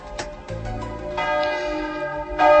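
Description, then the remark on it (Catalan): Church bells of Olesa de Montserrat peal in overlapping strokes, rich sustained tones layering into a dense, ringing wash that grows louder toward the end, with no voices present. “I és que el toc de campanes d'Olesa de Montserrat...”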